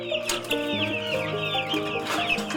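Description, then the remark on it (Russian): Chicks clucking and cheeping nonstop, a busy overlapping chorus of short chirps, steady and fairly loud throughout with no talking. “Цыплята – любимчики всей семьи, особенно Вивеи.”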